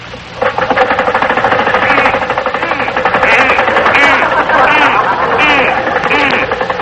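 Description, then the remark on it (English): A car engine, started up again after being worked on with a hammer, runs loudly and steadily with a rapid, rattling knock hammering through it for the whole stretch, with indistinct voices rising faintly over the din. “Yeah, start it up again.”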